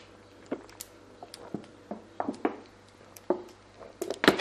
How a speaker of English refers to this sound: Ah, sorry. I had to drink some water.